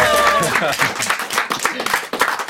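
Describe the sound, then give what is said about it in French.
A studio audience applauds, a dense, steady patter of many hands clapping throughout, with a few voices calling out near the start. “Folie du spectacle, foule endiablée, une ambiance moins chaleureuse que ce qu'il y aura à la salle Réjeanne, avec les standing ovations et les fleurs jetées sur scène.”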